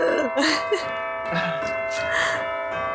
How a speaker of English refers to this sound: Okay, we get it. Church bells.